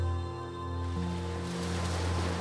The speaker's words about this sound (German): Im rubinroten Licht, das dich umgibt, im rubinroten Licht, das dich umschmiegt, spürst du deinen Herzschlag. Er gleicht sich dem Rauschen des Wassers an.